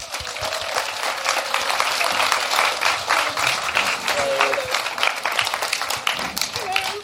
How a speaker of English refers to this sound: So I think that deserves a big round of applause from this audience.